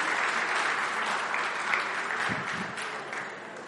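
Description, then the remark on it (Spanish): A crowd applauds steadily, a dense wash of many hands clapping at once, holding fairly even in loudness for several seconds before easing slightly at the end. “Dale una palmadita al que está a tu lado, aliéntalo, dale un aplauso a Dios.”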